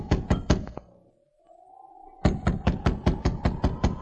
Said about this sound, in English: sergeant repeated his knock. Finally, a sliver of light showed as Duke Duval opened the door cautiously.